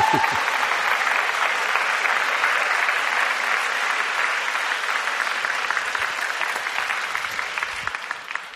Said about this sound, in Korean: 박수가 좀 더 나올 것 같았는데.